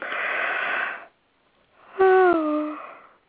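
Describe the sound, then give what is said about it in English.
A long, breathy inhale, a brief pause, then a loud voiced yawn whose pitch slides downward before trailing off into an airy exhale. Clear, with no talking. “Here comes a yawn.”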